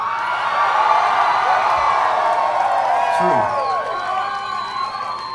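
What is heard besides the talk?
audience cheering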